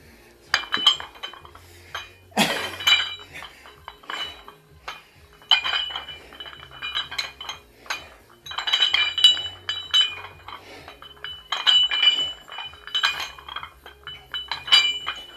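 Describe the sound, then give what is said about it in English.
Repeated bright metallic clinks and clanks of dumbbells being handled during an arms workout, in irregular bursts with a sharp louder clang early on, no talking. “So next is arms, back to the dumbbells.”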